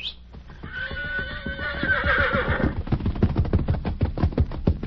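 Bud Kramer's horse lets out a loud, wavering whinny lasting a couple of seconds, then snorts as a quick, rhythmic clip-clop of hooves takes over.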